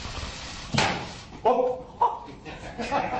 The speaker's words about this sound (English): The arrow he fired bounced off the wall into a cameraman.